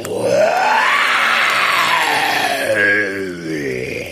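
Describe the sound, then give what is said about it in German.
A single long, loud tiger roar in the jungle swells upward in pitch and then slowly falls away, filling about four seconds with no talking. “Plötzlich dringt ein fürchterliches Gebrüll durch den Dschungel.”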